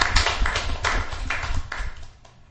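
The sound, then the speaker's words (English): A brief burst of group applause: dense, irregular clapping at a steady level for about two seconds, then quickly thinning out and fading. No one speaks over it. “So you all deserve a round of applause.”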